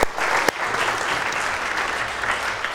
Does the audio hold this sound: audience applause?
yes